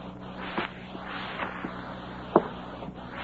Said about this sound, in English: A short, heavy-set man furtively approaches a home in which all the lights are out. He goes up the front steps quietly.